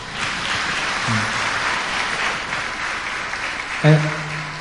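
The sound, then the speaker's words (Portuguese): An audience claps steadily throughout for those who already pray the rosary every day, a dense, loud wash of many hands. A few short tonal cries or whoops rise briefly above the clapping near the middle and toward the end. “Uma salva de palmas para quem já reza.”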